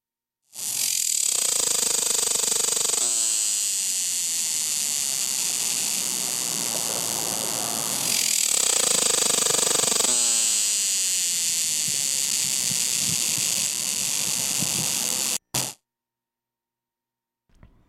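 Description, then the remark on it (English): A loud, buzzing cicada call with a high, shrill tone, swelling in two long pulsing phrases with a rhythmic throbbing underneath, then cutting off abruptly. “And since we spent most of today's morning show talking about the amazing cicada, let's take a few moments to listen to some of the distinctive sounds that various kinds of cicadas make.”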